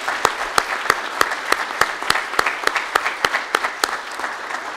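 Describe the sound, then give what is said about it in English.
An audience applauds steadily for several seconds in thanks to a deacon and a priest for their ministry, a dense wash of clapping with sharp, prominent claps popping out at a fairly even rhythm; no one speaks over it. “Let's give them a nice round of applause for their ministry.”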